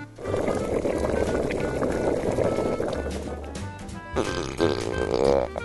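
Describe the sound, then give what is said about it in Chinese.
A pot of boiling water cooking zongzi (rice dumplings) bubbles and gurgles steadily, a dense, continuous churning of low burbling pops, with a brief shift in texture near the end and no voices. “不久锅子里发出咕噜咕噜的声音。”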